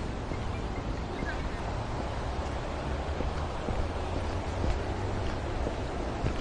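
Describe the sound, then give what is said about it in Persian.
A steady, continuous roar of sea surf washing ashore, with the wash of waves blending into a constant rushing noise and some wind, fairly loud throughout. “یعنی دریای بسیار مقبول است در اونجا، اینجا فکر میکنم تابستان بسیار باید خوبش باشه.”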